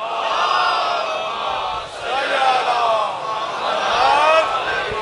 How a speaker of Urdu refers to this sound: بلند صلوات.